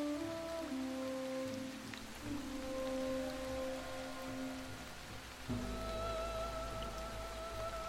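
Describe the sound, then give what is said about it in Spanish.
Steady rain falls continuously on a surface, a dense even patter with no speech. Some low, tonal hums sit beneath it, and the background thickens slightly toward the end. “Está tardando demasiado y la lluvia no cesa.”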